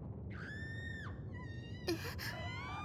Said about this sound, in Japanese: なんなのこの地響き。しかも悲鳴。あのすみません、一体何が起きたのですか？